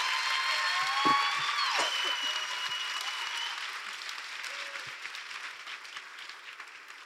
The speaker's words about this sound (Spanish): Excelente. Oigan, un aplauso también.